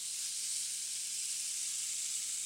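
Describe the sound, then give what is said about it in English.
Steady rain drums on the zinc roof of a house as a dense, even hiss, bright and continuous with no individual drops standing out, holding the same moderate level throughout. “And when it rains, you could hear the rain falling like this.”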